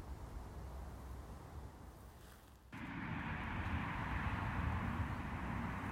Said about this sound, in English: You may now be able to hear the rumbling roar of traffic in the background as we're about to head on to the main road, actually, between Harrogate and Spofforth, that eventually twists and winds its way round through into Wetherby.